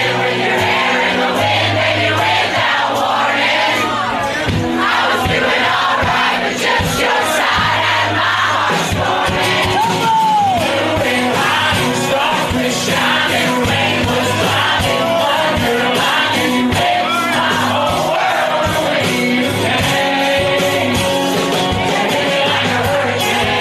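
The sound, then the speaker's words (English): A loud crowd at a bar in town sings along in unison to a whole song played live, many voices blending into a steady roar over the band's sustained chords, with occasional shouts and whoops. “This is the crowd last night at a bar he was playing at in town, singing that whole song.”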